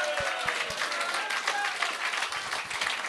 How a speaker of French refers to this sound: Bravo à lui, parce que souvent le monde, tu sais, on devrait l'applaudir.